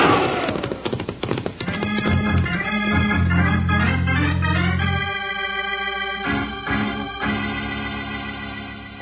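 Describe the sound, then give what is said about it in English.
Ponies galloping toward a pass: hoofbeats pound in a fast, steady rhythm, mixed with loud, sustained musical tones that swell and shift throughout; no one speaks. “Part up these ponies and let's get through the pass.”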